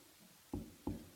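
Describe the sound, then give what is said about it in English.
Three firm knocks on a door, evenly spaced and fairly loud, each a dull wooden thud with a quiet pause before the first. No one speaks. “He's knocking on your door.”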